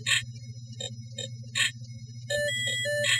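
A tinny MIDI phone ringtone, one of about 165 ringtones, plays a stomp-stomp-clap percussion pattern, then shifts into bright electronic synth notes, all over a steady low hum.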